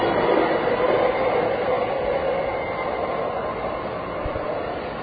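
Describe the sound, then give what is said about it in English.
Steady, broad rumble of rail noise at a busy train station with multiple trains, two having just left this platform and another at another platform; a continuous roar of moving trains with no clear voices, holding fairly constant and easing slightly toward the end. “And again, this is a station with multiple trains. Two trains just left on this platform. There's another train on another platform.”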